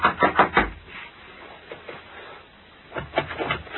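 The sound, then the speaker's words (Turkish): Several firm knocks on the wooden door of Musatlak's house in a quick cluster, then a pause with faint rustling before another burst of knocking, fairly loud. “Aç kapıyı!”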